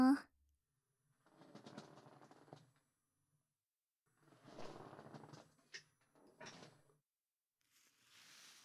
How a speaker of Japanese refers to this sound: じゃあさっきのシャンプー台の方どうぞ。はーい、いらっしゃい。じゃあまた椅子の方動くよ。